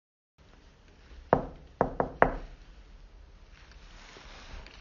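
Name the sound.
knocking on a door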